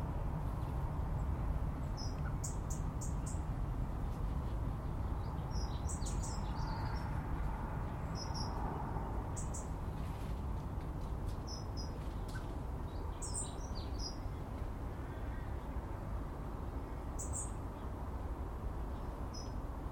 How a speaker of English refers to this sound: Lots of birds hopping about this morning, flitting from tree to tree.